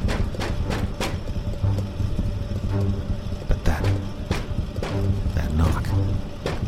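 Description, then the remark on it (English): A series of sharp, hollow knocks in an uneven rhythm, some in quick pairs, sounding over a steady low rumble with no voices. “Sounded so human. What would knock like that?”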